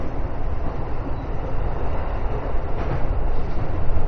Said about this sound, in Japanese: This is a 中央 line train for 高尾。 The next station is 神田。 The doors on the right side will open.